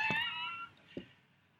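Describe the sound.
A person lets out one drawn-out, nasal meow imitating a cat, followed by a faint soft knock and quiet room tone.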